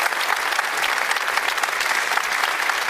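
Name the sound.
applause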